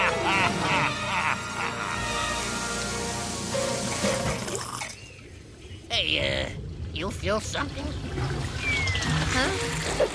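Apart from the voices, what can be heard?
water flowing and pouring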